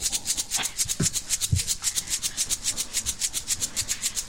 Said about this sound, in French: Donc, vous allez vous immerger avec moi dans une ambiance de nuit d'été. Nous allons reproduire ça. Écoutez d'abord les grillons.